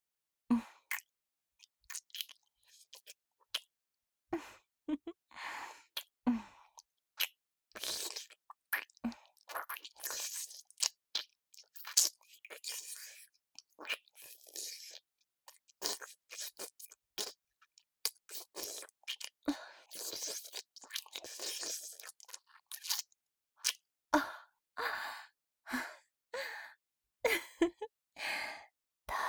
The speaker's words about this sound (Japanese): ほら、もっとキスしてやろう。